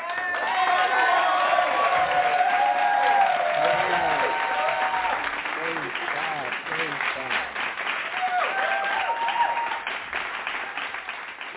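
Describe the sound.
An audience claps loudly and steadily to welcome a preacher coming forward to speak, a dense sustained wash of hands with voices calling out and cheering throughout.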